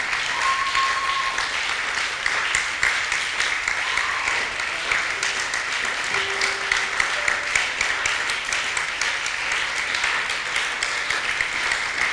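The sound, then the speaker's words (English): An audience claps steadily in praise of the Lord for the full stretch, a dense, even wash of many hands without pause, with a few faint sustained tones and murmurs threaded underneath. “As you clap, I see your Red Sea opening.”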